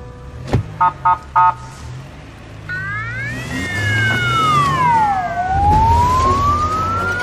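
A loud car alarm siren on the speaker's car gives a sharp click, then three quick chirps, and then a rising and falling electronic wail that repeats, over a low engine rumble.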